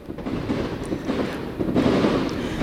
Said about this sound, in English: Excellent. Listen to those fireworks. Yes, it's so great. It's really exciting.